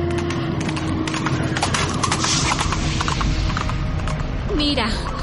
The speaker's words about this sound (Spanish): ¿No oyes? ¿No escuchas a lo lejos un galope de caballos? Sí, los escucho. ¿Pero qué son? ¿Quiénes son? Son jinetes.